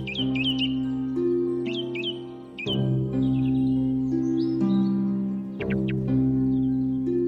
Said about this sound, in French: À l'instant, ce son magique fut reparaître à mes yeux le domaine paternel. J'oubliai les catastrophes dont je venais d'être le témoin, et transporté subitement dans le passé, je revis ces campagnes où j'entendis si souvent siffler la grive.